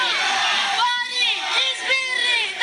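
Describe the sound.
A crowd of voices shouting and yelling over one another, loud and continuous, with rising and falling cries breaking through a dense, noisy wash of sound.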